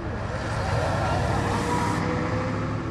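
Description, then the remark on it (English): Steady outdoor traffic rumble at a parking lot near a gas station in northwest Amman, Jordan, where men gather to wait for work, with passing cars and heavier vehicles idling, a dense low-frequency roar and indistinct voices murmuring in the background. “There, the men gather on street corners or in parking lots like this one, near a gas station in northwest Amman, to wait for work.”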